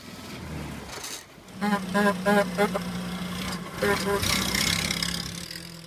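A vintage Oxford Bullnose car engine chugs along, its steady mechanical drone rising and dropping in pitch through a few clunky gear changes, with rattly knocks over the running motor.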